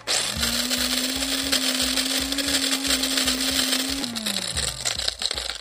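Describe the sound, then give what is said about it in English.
A hand-cranked prize drawing grinder, cranked by a Louisiana Eats producer to draw this week's lucky winner, churns loudly with a steady droning hum and rhythmic rattling clunks, then winds down and slows toward the end. No one speaks. “Thomas Walsh, our Louisiana Eats producer, is manning the grinder.”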